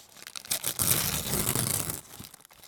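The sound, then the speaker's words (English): Wrapping paper being torn and crinkled, a dense burst of rustling and ripping that swells loudly through the middle, then thins out into a few scattered crackles at the end. “The sound of wrapping paper.”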